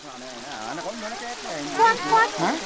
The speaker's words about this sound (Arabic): ما هذا؟ ما هذا يا حمار؟ ماذا؟ إنه المطر؟ لقد بدأت ألوان الفاكهة تزول، وألوانها الحقيقية بدأت تظهر. انظروا أيها الحيوانات. هذا صحيح، لقد غسلت قطرات المطر الفاكهة وأزالت ألوانها المغشوشة.